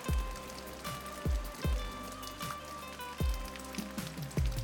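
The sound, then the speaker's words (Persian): Steady rain patters across a surface, a dense hiss of drops with heavier, hollow drips thudding in every second or so. It's continuous, with no voices. “پس از شما تقاضا میکنیم که با ما همراه باشید تا در این مدت کوتاه ترانه … را با هم بشنویم.”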